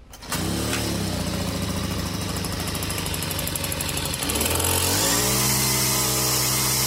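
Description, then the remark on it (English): A gas weed whacker runs loudly with a steady, buzzing engine whine; near the end it briefly drops in pitch, then revs back up higher. No one speaks. “That weed whacker finally running good.”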